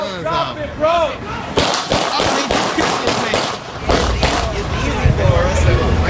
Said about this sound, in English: And Chief, I mean, you hear the gunshots.